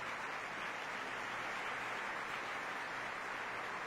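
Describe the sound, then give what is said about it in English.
An opera audience applauds steadily as conductor Marco Armiliato asks the orchestra to rise before Act Two of Puccini's Madama Butterfly, a dense, continuous wash of many hands clapping that holds at an even level for the whole stretch, with no voices standing out. “And here he is asking the orchestra to rise, applauding for them himself and shaking hands with Laura Hamilton as we get ready for Act Two of Puccini's Madama Butterfly, which will start very shortly.”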